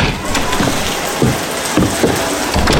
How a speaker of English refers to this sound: The inner door of the entry vestibule opened, and Clive heard the wind and splatter of the rain pouring down outside in the moment before his doorman swung the outer portal shut.